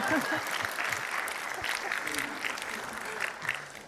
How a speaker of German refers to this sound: Und mit mehreren Gästen hier auf der Bühne, aber als allererstes herzlich willkommen für die, die zum Zuhören hier gekommen sind. Ja, wenn ihr wollt, könnt ihr auch klatschen, ja.